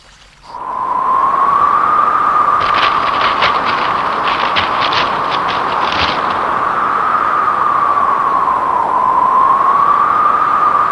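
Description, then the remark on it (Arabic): A steady, loud roar of wind with a howling tone that slowly rises and falls, broken midway by a cluster of brief crackling gusts. “الريح قوية.”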